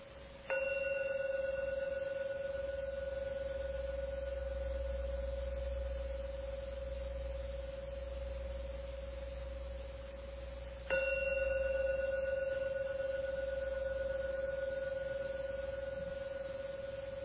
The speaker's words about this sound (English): I'm now going to ring the gong 3 times. Please don't open your eyes until the last gong finishes. Don't waste this beautiful opportunity. Just with your eyes closed and listen to beautiful sounds and let the last ringing take you out.